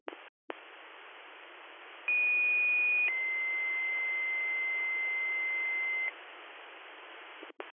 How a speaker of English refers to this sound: Department 5, Shimong, this broadcast is the last alarm being sounded for Tony LaRocque, past assistant chief, current commissioner.